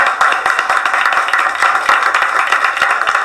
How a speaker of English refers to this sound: give yourselves a very strong round of applause.